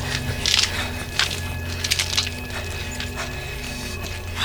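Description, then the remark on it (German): A fire burns in a garden with irregular crackles and sharp pops over a steady low rumble, the snaps clustering in quick bursts and then thinning out. “Kollegen, im Garten brennt ein Feuer.”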